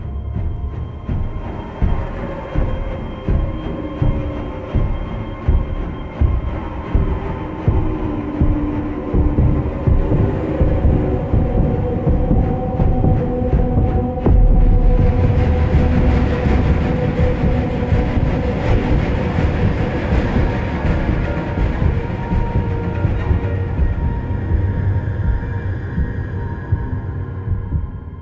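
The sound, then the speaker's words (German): Layered, echoing electronic tones repeat in a steady loop, then shift into a deep, throbbing pulse like a heartbeat, with brighter texture rising midway. No one speaks over it. “Aber diese anderen Töne nach dem ersten kam mir nicht so vor, als ob das jetzt einfach leiser wird, sondern als ob das irgendwie wie ein Delay ist, und nachher hat sich das sogar auch noch in so eine Art Herzschlag verändert.”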